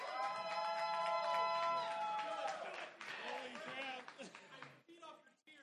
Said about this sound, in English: Everybody that wants to vote for the Fast and the Furious, clap right now. All right. Everybody that wants to vote for Pitch Perfect, clap right now.